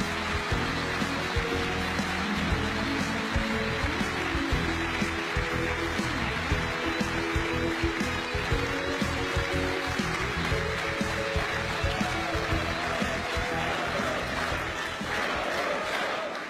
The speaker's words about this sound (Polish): Zapraszam na scenę naszego lidera, pana prezesa Jarosława Kaczyńskiego. Proszę o ogromne brawo.